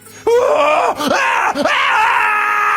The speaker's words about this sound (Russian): Жуткий крик сотрясает воздух.